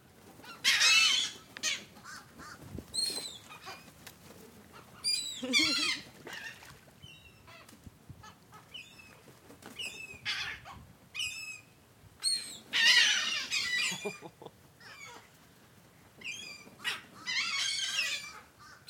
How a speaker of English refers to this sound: I'm throwing pieces of a bagel into the air. And? And seagulls are catching them. I'm gonna go rapid fire.